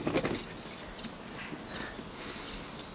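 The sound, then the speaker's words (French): Quiet, scattered hoof thuds and shuffling as horses shift in place while riders dismount during a stag hunt, by quicksand and marshland at Versailles, with light metallic jingling like tack or harness, a few irregular steps over a soft background hiss. “Ce n'est que sable mouvant et marécage par là, les chevaux vont s'embourber. Descendons de cheval alors.”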